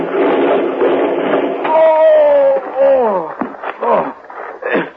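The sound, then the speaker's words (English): A vehicle crashes as it tips over after a wheel comes off: loud rattling rumble, a long descending squeal, then a few clattering thuds and bangs as it settles. “Wheel's coming up. We're going to tip over.”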